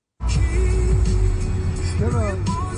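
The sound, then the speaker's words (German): Steady low rumble inside a ride-hailing driver's car driving through city traffic in Tehran, Iran, the engine drone constant throughout, with brief muffled voices speaking inside near the end. “Am besten geht das im Auto, so wie hier”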